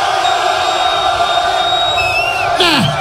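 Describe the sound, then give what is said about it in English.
A loud crowd cheers and shouts continuously, a dense roar of voices with whistles and whoops rising over it, swelling briefly near the end. “To all the brothers in the place that don't give a damn about what them ladies talking about, cause you just trying to get your man, make some noise.”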